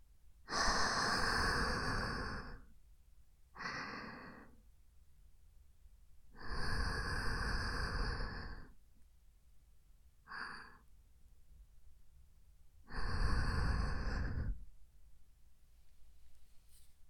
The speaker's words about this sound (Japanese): 私の吐息、君の耳にかかっちゃってるよ。少し舌を伸ばせば、君の耳を舐めることもできるくらい近い距離。